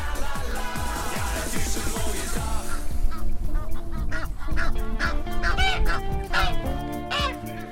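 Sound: geese honking nearby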